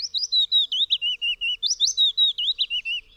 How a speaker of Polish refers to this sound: Pojedyncza zwrotka piosenki Piecuszka trwa około 3 sekund. Złożona jest z kilku sekwencji jednakowych sylab.